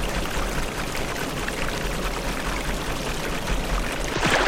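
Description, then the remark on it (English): A steady, full rush of flowing river water in a video game after the player's character falls into the river, loud, continuing without pause and with no voices. “Alright, so I fell in the river.”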